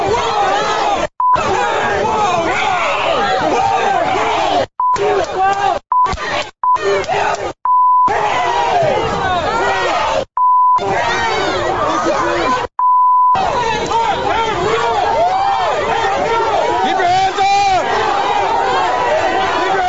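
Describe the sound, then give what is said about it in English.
A loud protest crowd at a rally at the University of Texas chants and shouts continuously, including "Let him go" as police take a man into custody, while a steady censor bleep tone cuts in repeatedly, about seven times, in short and longer bursts that blank out the voices. “To beep a lot of it out, but you heard the main thing.”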